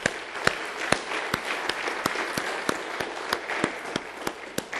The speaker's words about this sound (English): I thought worship was great. Can we give the praise band a round of applause?